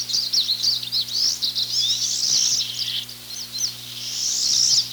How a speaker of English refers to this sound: The most abundant bird at many feeders this year is the pine siskin. Listen for its zippy chittering.